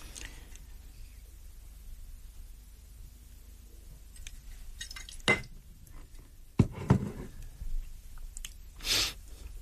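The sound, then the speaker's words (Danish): A drink is poured into a glass, with a few glassy clinks and knocks and a short liquid splash near the end. No one speaks. “Det kan også godt være, at jeg lige skal udnytte pausen til at skænke mig bare en lille en.”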